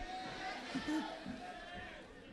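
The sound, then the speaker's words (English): A church audience stomping their feet in a Mexican-style zapateado worship dance, producing a dense, continuous rumble of footfalls with crowd noise and voices blended underneath. “Aleluya, come on, stomp on the devil's head.”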